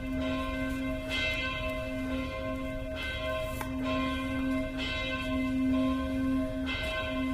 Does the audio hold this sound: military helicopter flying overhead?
no